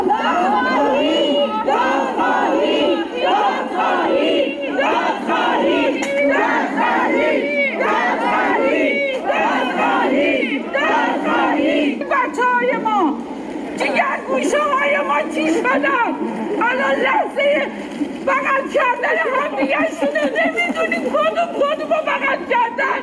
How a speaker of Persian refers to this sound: همچنین خانواده‌های قربانیان این حادثه با در دست داشتن عکس قربانیان و شاخه های گل در فرودگاه امام فریاد دادخواهی سر دادند.